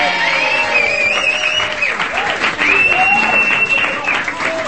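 A studio audience applauds steadily for several seconds, dense clapping with whoops and a few whistles rising over it, loud and close throughout.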